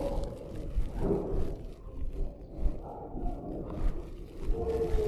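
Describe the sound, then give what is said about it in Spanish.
Long, drawn-out wolf howls rise and fade over a dense, rumbling wild backdrop, with the animal cries overlapping and no one speaking. “Son lobos. Están rodeados de lobos.”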